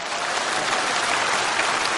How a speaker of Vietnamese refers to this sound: Đấy là chúng ta cho một tràng pháo tay để cảm ơn